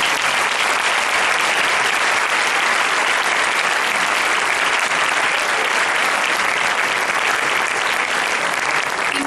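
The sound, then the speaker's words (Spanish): Sustained audience applause for the victims of terrorist attacks, a dense, even wash of many hands clapping at steady loudness for the full length, with no voices standing out. “Así que un fuerte aplauso por todas esas víctimas.”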